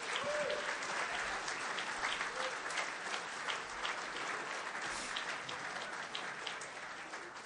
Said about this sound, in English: So can I ask you five to stand up just for a moment, please? Have a look over there. Why don't you give them a round of applause?